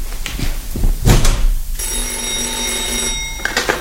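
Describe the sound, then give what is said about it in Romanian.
A telephone bell rings loudly for over a second, a sustained metallic trill, after some brief clattering and shuffling noises; no one speaks. “Foarte bine că-mi telefonez.”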